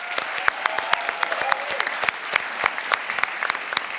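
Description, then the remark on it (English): An audience claps steadily for the three Imagine Cup finalists, dense overlapping hand claps filling the space at moderate loudness, with a faint murmur or whoop underneath and no clear talking. “Let's do one more round of applause for all three finalists.”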